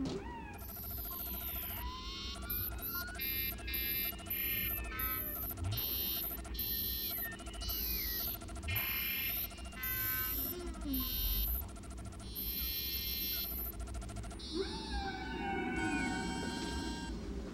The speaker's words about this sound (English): as suspected, the probe's transmissions are the songs sung by whales. Whales? Specifically, humpback whales.